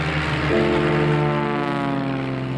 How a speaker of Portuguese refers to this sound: Em 27 de outubro de 1996, um Bell Anca decolava do aeroporto de Smithville, em Tennessee, da pista 24.